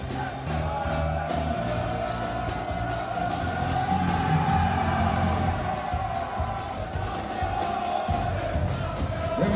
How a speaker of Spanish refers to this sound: Y así gritaban los españoles en el podio con la medalla y la copa.